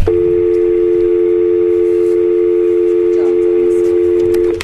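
A steady, unbroken telephone dial tone hums loudly and evenly for several seconds over faint background noise, then cuts off abruptly, during technical difficulty with phone communications with two assembly members.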